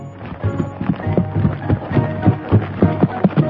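Horse hooves pound in a steady galloping rhythm from several miles away, a rapid series of thuds that sound distant and muffled, continuing throughout without any voices.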